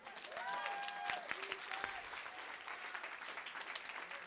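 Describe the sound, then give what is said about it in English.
A crowd claps steadily in a dense, continuous wash of applause, with a few voices calling out over it near the start before the clapping carries on alone. “Make yourself useful. Clap your hands for Jesus.”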